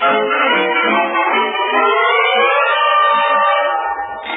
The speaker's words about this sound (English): Oh, my goodness. That doorbell is waking Daddy up, baby. Hurry and open the door.